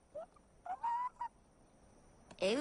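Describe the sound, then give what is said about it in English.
Birds honk in a short series of nasal, goose-like calls, a few brief squawks followed by a louder, harsher honk at the end, with no talking. “Well, it looks like your birds are back.”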